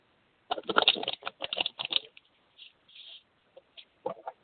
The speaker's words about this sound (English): Just shuffling real quick. You got the Persephone card.